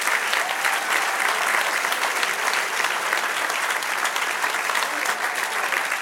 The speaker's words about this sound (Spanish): Dale un aplauso al Señor, a ver.